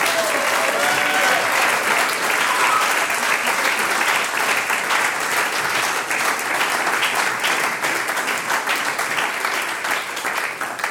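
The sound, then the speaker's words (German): Sustained audience applause fills the whole stretch, a dense, steady wash of many hands clapping at once, loud, with a few faint voices or cheers mixed in near the start, applauding a folk music group. “das ist euer Applaus.”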